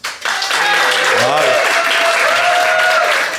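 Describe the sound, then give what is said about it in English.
A Soho Theatre audience, voting by applause, bursts into loud, sustained applause, a dense steady wash of clapping lasting several seconds, with a few voices and whoops rising through it. “So instead, I'm going to call upon our Soho Theatre audience to decide.”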